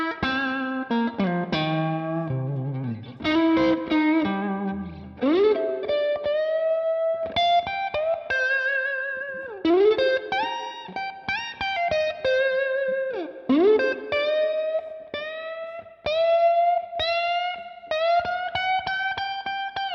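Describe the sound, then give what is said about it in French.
Electric guitar played through effects, with repeated expressive string bends sliding pitch up and down across a melodic line, sustained notes with a slightly distorted, chorused tone and no voices. “Encore une fois, gros travail sur les bends.”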